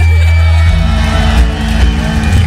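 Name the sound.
crowd cheering and whooping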